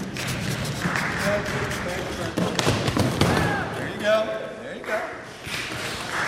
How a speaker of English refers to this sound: Hear that thump and then the applause from the guys there? That's me falling right on my backside.